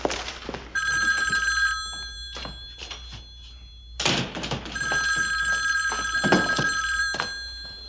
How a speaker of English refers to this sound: Hey, anybody gonna answer the phone?